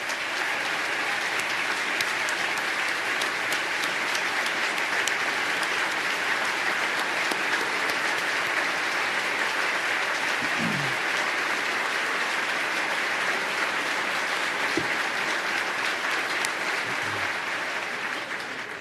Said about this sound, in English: And the New York State trooper stepped up in the finest tradition of the New York State Police. His name is Sergeant Jay Cook, and he's here today, and we ask him to rise, and let's give him a round of applause.